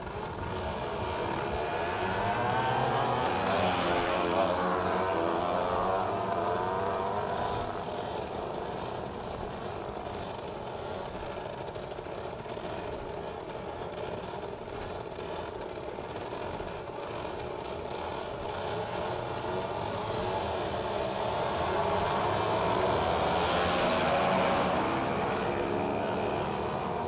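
Steady roar of four-lane Highway 98 traffic in Navarre Beach, 30 feet away behind a fence, with a continuous wash of tire and engine noise and louder vehicles swelling past near the start and again near the end. No voices.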